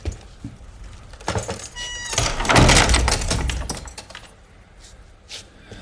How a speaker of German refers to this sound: Aha, dann, dann schließe ich nun die Tür, ja?